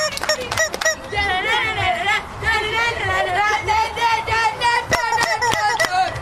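Chickens squawk and cluck almost continuously in the background, a busy, overlapping chorus of wavering calls broken by a few sharp clicks, with faint chatter mixed underneath.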